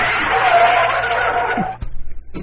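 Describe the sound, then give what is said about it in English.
A voice imitates the sound a pedal device makes when stepped on (it does not actually brake): a long, harsh screech that holds steady for over a second, then breaks off into a sharp crash-like burst followed by a few fainter rasping bits. “But what it does is when you step on it, it makes this screeching sound. No, that's right. Do the screeching sound.”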